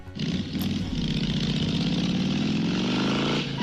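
A motorcycle engine roars steadily for several seconds, its pitch climbing as it revs up near the end before cutting off. No one speaks.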